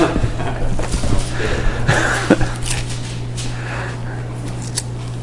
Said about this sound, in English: All right, let's turn over to Isaiah, the 52nd chapter. I'm waiting for page shuffling to take place, so let me hear some paper noise at least. Now, those of you on phones, I can't hear any paper noise.